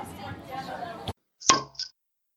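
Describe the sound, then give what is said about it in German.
Glasses clink together in a toast in a cinema hall before a sneak preview screening: after a moment of muffled talking and a short pause, one bright, ringing clink is followed quickly by a second, lighter one. “Hier ganz kurz. Cheers. Prost.”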